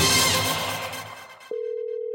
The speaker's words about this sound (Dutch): Zullen we weer eens kijken of er iemand de telefoon opneemt? Ja, maar we hoorden al een telefoontje rinkelen.